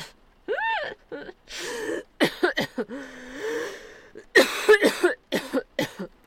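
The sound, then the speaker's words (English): A long fit of harsh, choking coughs after swallowing water the wrong way, mixed with strained, wheezy gasps. The coughs come in irregular bursts and grow loudest in a forceful cluster near the end. “I actually swallowed it the wrong way.”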